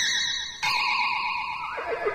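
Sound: horse neighing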